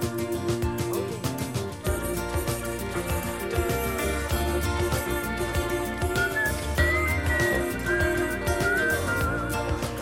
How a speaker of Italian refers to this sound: È una canzone che dura più di 6 minuti, noi abbiamo sentito la prima parte che finisce proprio così, con lui che fischietta e poi ricomincia con un appendice